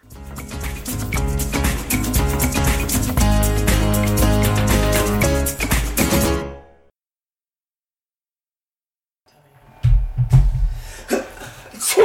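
Upbeat music plays and then cuts out; after a few seconds of silence, a single sharp sneeze, caused by dust, bursts out, followed by faint rustling.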